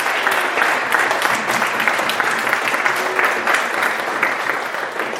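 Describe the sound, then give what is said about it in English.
A crowd at a church meal gives a round of applause for the people who cooked the food, a dense, sustained wash of clapping hands that stays loud and even for the full five seconds without a break, with no talking over it. “Yeah, round of applause.”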